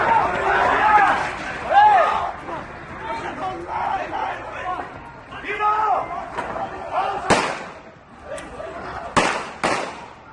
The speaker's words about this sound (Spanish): Todavía se ponen los pelos de punta al escuchar el sonido de los disparos en plena calle, en pleno paseo marítimo de Cambrils.